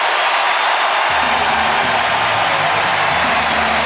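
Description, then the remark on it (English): A loud, sustained roar from a large baseball stadium crowd cheering and clapping as the Giants take the lead on Devers' double, a dense wall of noise that keeps going for the whole few seconds, with some shouting voices rising within it. “The Giants take the lead. And listen to this crowd.”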